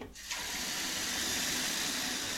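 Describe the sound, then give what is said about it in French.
Water from a tap starts after a brief moment and runs into a sink in a steady, loud, hissing stream while dishes are washed, with no voices. “Que je fasse la vaisselle?”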